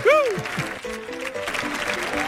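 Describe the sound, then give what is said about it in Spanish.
An audience claps steadily and densely for a couple of seconds for a guest introduced as a professor, with a rising whoop at the start and voices calling out over the clapping. “Fuerte el aplauso, por favor, para nuestro catedrático”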